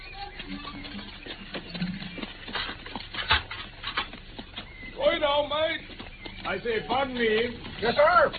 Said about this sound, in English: I can see the carriage in the driveway now.